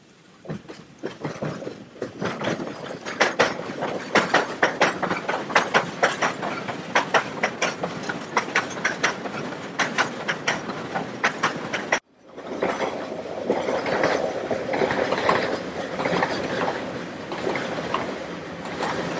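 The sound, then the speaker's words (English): A steam-hauled spoil train, carrying spoil from the pit to the spoil dumps, rolls along the rails with a steady, rhythmic clickety-clack of wheels over joints, loud, then gives way to a continuous rushing rumble of wagons passing. No voices. “It is also a holding yard for the spoil trains coming out of the pit and going onwards to the spoil dumps.”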